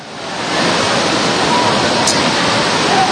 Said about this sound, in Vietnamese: Mấy chị em đi vào trong mau lên, có mưa ướt hết, mưa to đấy.